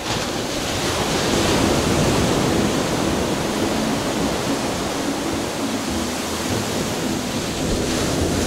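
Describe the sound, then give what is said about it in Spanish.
Ocean surf rushes steadily onto the shore, a loud, continuous wash of broad noise with gentle swells in intensity and no voices throughout. “Mira, cállate tantito y escucha el ruido del oleaje.”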